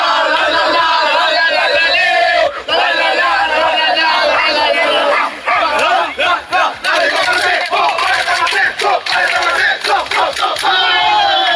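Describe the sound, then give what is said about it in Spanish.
The Stade Français rugby team roars its battle cry together, a dense, loud wall of many voices shouting in unison for about eleven seconds, with a few sharper accented bursts near the middle. “Ahí estaba el grito del equipo y ahora vamos a escuchar al capitán.”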